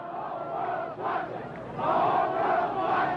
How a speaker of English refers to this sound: The whole world is watching, chants the crowd on the side.